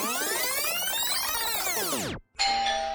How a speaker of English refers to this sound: The doorbell rings as the weary traveler arrives first.